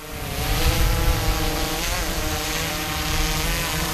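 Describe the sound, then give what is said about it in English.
A steady, powerful whirring of propellers from a Noble County Sheriff's Department police drone, not much larger than a backpack, holds for several seconds, loud, with a constant motor drone and stacked harmonic tones that waver slightly in pitch. “That powerful whirring sound is coming from one of the Noble County Sheriff's Department's two drones.”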